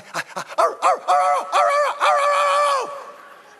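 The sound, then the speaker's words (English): A dog barks insistently, a few quick sharp yaps giving way to longer, drawn-out whining barks, loud and continuous with no one speaking; the dog is still barking five minutes in and won't stop. “You know, but like that was 5 minutes into it, and the dog won't stop.”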